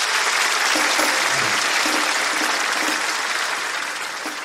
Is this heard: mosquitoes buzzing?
no